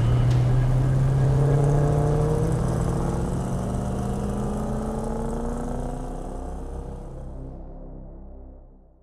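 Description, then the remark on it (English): A car engine roars loudly with a droning, shifting pitch as the car tears away, then gradually fades as the vehicle pulls away, ending in quiet. No voices are heard. “all but stuffed me in the car, and we tore out of there.”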